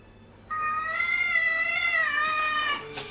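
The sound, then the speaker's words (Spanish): A single drawn-out meow from a kitten wearing a device on its neck, fairly loud, holding a wavering tone for over two seconds before tapering off, with no talking. “Ya, mira, ahí le pone el dispositivo en el cuello a su gatito y tiene una pantalla donde ella le dice I love you y el gato supuestamente le responde de vuelta I love you too.”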